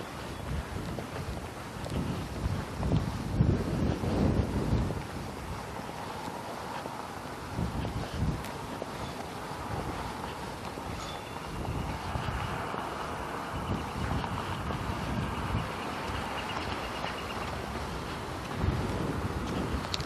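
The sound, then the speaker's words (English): Wind gusts steadily through a gap between buildings at a cross street, a rough buffeting roar with a faint, thin whistle rising partway through. No one speaks. “It's a cross street here, and the wind is just whistling in the gap.”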